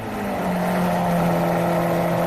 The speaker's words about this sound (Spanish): Bueno, vamos con el segundo. Venga, el preferido de Pedro Sánchez, el Lamborghini Aventador.